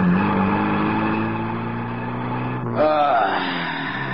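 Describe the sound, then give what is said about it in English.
A blue sedan's engine revs with a steady, humming drone, then shifts gear partway through and climbs again in pitch as the car accelerates out of dense midday traffic in Pittsburgh toward the open highway, loud and continuous throughout. “Amidst the dense traffic, one blue sedan breaks free and makes for the open highway.”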